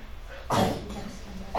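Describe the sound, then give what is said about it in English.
A single sharp sneeze bursts out loudly partway through, brief and explosive, followed by quieter murmuring and the start of another abrupt sound at the end. “Bless you.”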